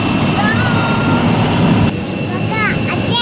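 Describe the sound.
A jet airliner bound for Vienna idles on the apron at Odesa before boarding: a loud, steady engine roar with a high turbine whine, plus a few short rising squeals and faint background voices.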